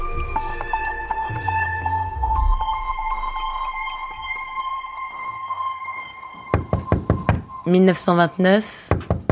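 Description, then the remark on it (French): A quick series of firm knocks on the door of Man Ray's apartment in Paris, made by Lee Miller, rings out after a sustained musical tone fades, followed by a few more knocks as a voice begins speaking. “Lee Miller frappe à la porte de l'appartement de Man Ray.”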